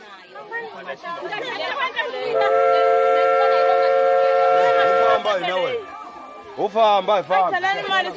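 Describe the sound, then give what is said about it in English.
A steam train running through the bush in Mozambique sounds its whistle, one long, steady, multi-toned blast for about three seconds, rising over a busy murmur of voices and chatter that carries on before and after it. “I've got sounds of trains, steam trains, running through the Mozambican bush.”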